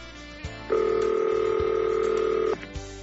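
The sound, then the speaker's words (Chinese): A telephone ringback tone sounds as a listener's call-in phone call connects: one steady two-pitch ring lasting nearly two seconds, framed by soft clicks on the line, with no one speaking. “我想我们先来接几通call in电话，再继续聊。”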